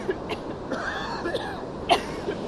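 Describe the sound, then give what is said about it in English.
Several short, dry coughs from two people, caused by red tide toxic algae irritation, break out in irregular bursts, one fairly loud near the end, over a steady wash of outdoor background noise on the beach at Cocoa Beach on a mild, bright afternoon with the surf breaking, with no talking. “I can't stop coughing”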